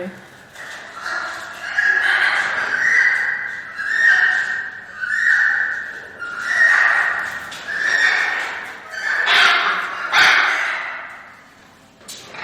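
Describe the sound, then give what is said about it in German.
An animal's mating vocalization, thought to be a copulation call: a loud series of about nine nasal, wavering calls repeating in a steady rhythm roughly once a second, with no talking over it. “Aber man geht eigentlich davon aus, dass das eine Kopulation kann sein kann.”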